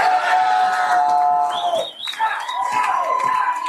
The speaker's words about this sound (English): As the clock wound down on Super Bowl 60, a roar went up at the Roanoke Bar in Seattle, one of many packed to capacity across the city.